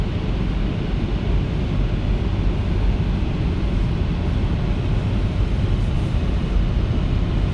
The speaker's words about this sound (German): Noch einmal das Element Wind. Ja, ihr habt richtig gehört, nicht Luft, sondern Wind. Wir haben Föhn. Ha, und wie?